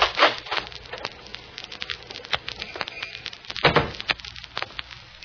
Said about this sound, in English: So when I open the lobby door, look at the reflection in the glass. I'll hold it at an angle so you can see.